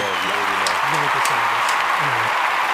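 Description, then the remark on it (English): Steady, dense applause, a clapping sound effect added in editing to a guest's introduction, fills the whole clip at an even loudness, with a man's voice speaking underneath it. “Don't worry, when I edit it, there'll be a clapping and all that shit there.”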